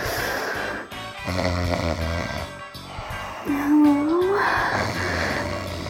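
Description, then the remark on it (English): A man snores loudly and raggedly over several seconds, with rough, rumbling breaths and a rising nasal snort partway through, unaccompanied by talk. “oh, wake up, will ya?”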